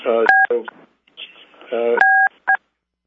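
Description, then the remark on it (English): Telephone keypad tones as #1 is pressed to mute a phone on a conference call: a short beep, then after a pause a longer beep and a quick final one, each crisp and loud, with a voice talking just before them. “Well, we can fix it probably by if it's a little inconvenient because people will forget where we are in the process, but if you do #1, you'll be muted.”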